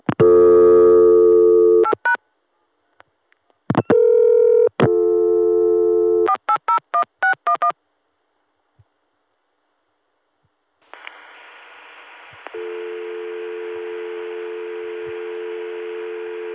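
Telephone line tones from calling into a touchtone-only PBX: two long steady tones, a quick run of dialing beeps, a stretch of silence, then line hiss settling into a continuous buzzy dial tone at the end. No one speaks.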